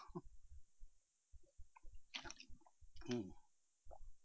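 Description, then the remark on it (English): Someone drinks water: soft wet clicks and gulps, a few swallows with short breathy bursts in between, fairly quiet and with no talking. “Let me grab a little drink. It's only water.”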